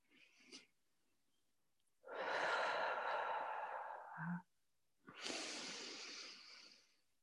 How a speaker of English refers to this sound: Okay, so just take three deep breaths.